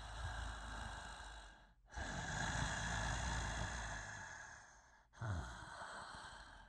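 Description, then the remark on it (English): Heavy, raspy breathing of a person trapped inside a lump in a wall: three long, loud breaths separated by brief pauses, with no talking, just the breath. “Right there, in the wall. It's breathing.”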